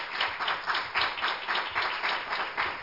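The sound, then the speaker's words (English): A church audience claps steadily together in praise of the Lord, a dense, sustained wave of many hands applauding at once for a few seconds, with no talking over it. “If you love the Lord, give him a hand clap of praise.”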